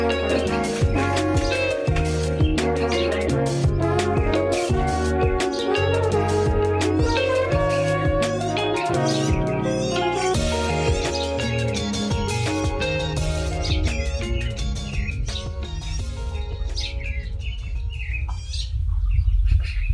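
Birds chirp and tweet continuously in a local park, calls overlapping at a steady, fairly loud level over a dense background of sustained tones, with no one speaking.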